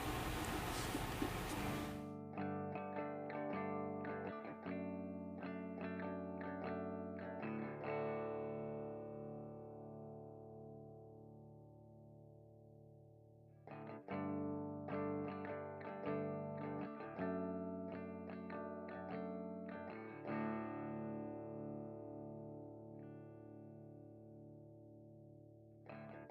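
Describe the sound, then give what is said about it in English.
A rock song plays from a recording, with thick distorted guitars and steady drum hits driving along, loud and full, with a brief burst of noise at the very start and no voices. “I guess we'll go into my theme now. Or my place. Okay, cool. This is … by ….”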